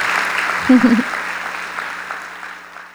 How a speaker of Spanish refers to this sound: Si recibieron algo de Dios hoy, ¿qué tal si le damos un aplauso a Él? Gracias, Dios. Gracias.